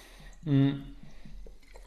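sipping and drinking water

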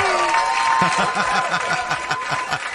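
applause

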